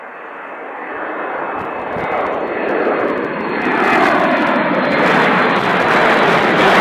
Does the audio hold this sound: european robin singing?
no